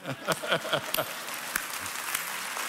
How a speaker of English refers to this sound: That's the kingdom. That's right. You may applaud.